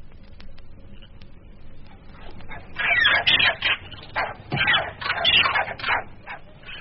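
Monkeys calling in the jungle: a run of shrill, yelping cries in quick bursts, growing louder and more frantic midway, over a steady low background hum.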